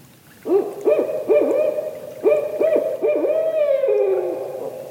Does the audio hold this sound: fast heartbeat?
no